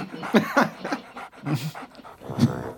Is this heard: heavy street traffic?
no